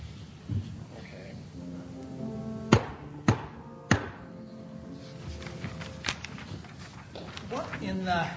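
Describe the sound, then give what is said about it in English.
Three sharp, evenly spaced knocks on a door ring out, with indistinct voices murmuring underneath before and after. “Come on, let's start knocking on doors.”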